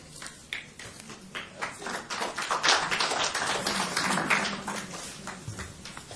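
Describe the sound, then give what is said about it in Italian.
An audience applauds steadily for several seconds to thank a speaker after his talk, the dense clapping swelling louder through the middle before easing slightly toward the end, with no voices over it. “Stiamo già ringraziando Don Giuliano con l'applauso”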